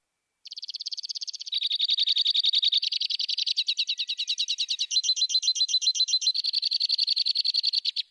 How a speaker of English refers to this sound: So chances are you're going to hear this bird then if it's perched at the top of trees eating.